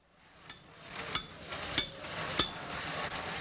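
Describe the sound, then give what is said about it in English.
Workers hammering on a monument to Benazir Bhutto's father under construction in Rawalpindi: about four sharp, evenly spaced blows with a metallic ring over a steady outdoor background hiss, with no voices. “Workers in Rawalpindi continue to hammer away at the monument they're building to Benazir Bhutto's father.”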